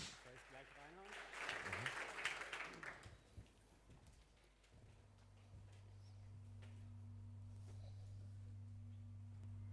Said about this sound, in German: Bitte eine Runde Applaus